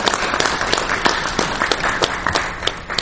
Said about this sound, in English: So I'm very, very grateful. Maybe we could just give all our presenters right now a huge round of applause.